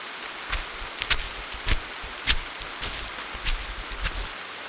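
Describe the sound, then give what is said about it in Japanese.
Steady rain falls outdoors, a soft continuous patter with scattered louder drops striking at irregular moments, and nobody talking. “あのさ、こんな雨の中こういうところって人来ないじゃん。”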